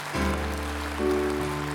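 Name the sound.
audience clapping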